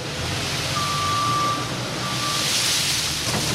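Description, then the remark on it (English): A front loader moves a mountain of peanuts into underground storage in the storage room at McCleskey Mills in Smithville: its diesel engine rumbles steadily and loudly, with two long, high reversing-alarm tones sounding over the machinery noise. No one speaks. “A front loader is moving a mountain of peanuts into underground storage.”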